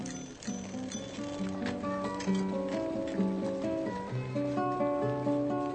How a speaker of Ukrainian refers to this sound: За окремими звуками, шумами, гудками автомобілів, велосипедними дзвінками, кроками, ви здогадалися, що ця сцена відбувається на якійсь вулиці або площі.